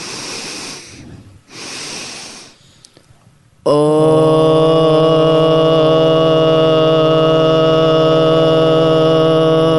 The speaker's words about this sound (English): And we're going to breathe that into our first chakra using two sniffs through our nose and then sounding out on a low O tone. So together, let's sniff through the nose.